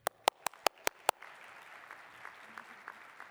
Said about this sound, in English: Can you please give some applause